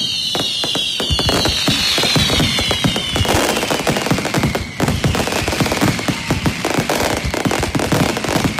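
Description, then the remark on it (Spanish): Rapid, dense crackling bursts of fireworks popping continuously, with whistling rockets gliding downward in pitch overhead; loud, no talking. A night fireworks display in Santander, Spain, by Sardinero beach during the Santiago festivities. “El sonido del día y de la noche lo han puesto, como se pueden imaginar, los fuegos artificiales aquí en la capital, en Santander.”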